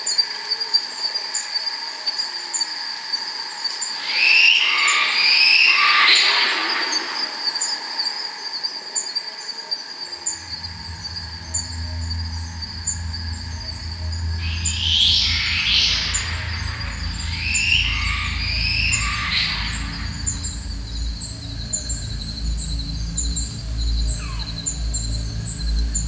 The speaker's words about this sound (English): And then yellow belly glider.